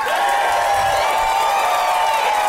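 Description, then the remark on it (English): Steady audience applause mixed with cheering and scattered whoops at a live show, a loud, dense wash of clapping for the act that holds evenly for the whole moment with no clear talking over it. “Give it up again for ….”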